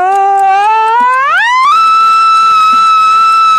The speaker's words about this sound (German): So, ich schließe nur die Uhr an. Jetzt stelle ich einen Wecker und aufgepasst.